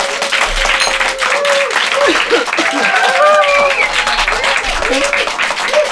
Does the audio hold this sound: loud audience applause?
yes